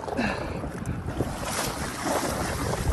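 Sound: ocean waves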